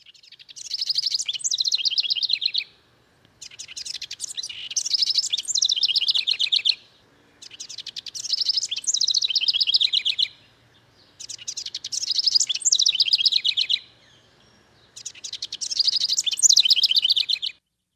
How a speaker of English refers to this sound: We have the song of a very humble bird, the house wren. But it's a beautiful song.